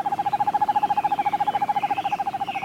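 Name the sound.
owl calling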